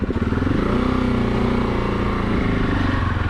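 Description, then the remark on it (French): A single-cylinder enduro motorcycle engine runs loud, its throaty pulsing note rising slightly as it revs, with no voices over it. “autant ce moteur, il peut être démoniaque avec ça, parce que j'avais bien aimé le moteur de la 701.”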